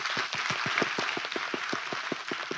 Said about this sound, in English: You want to keep clapping? Keep clapping. Amen. Love a church that claps.